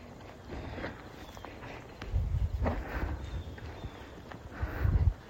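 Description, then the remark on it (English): Steady hoofbeats of a horse walking under a rider, a soft rhythmic clip-clop on dirt with creaks of tack, with a faint breathy murmur near the end. “The joys of riding horses.”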